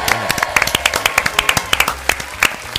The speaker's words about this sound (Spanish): Un aplauso.